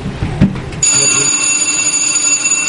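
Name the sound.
bell ringing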